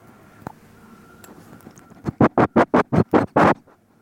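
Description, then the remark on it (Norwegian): A female dog lying on the floor, breathing normally, sniffs at a mobile phone in a quick run of about eight sharp, breathy snuffles, evenly spaced and fairly loud, after a couple of faint clicks and quiet breathing. “Som dere hører så puster hun helt vanlig, nå lukter hun bare litt på mobilen, men hun ligger mellom oss på gulvet”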